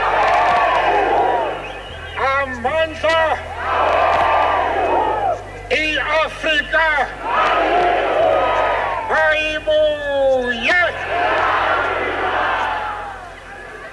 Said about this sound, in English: City Hall, where he addressed thousands of cheering people. Amandla!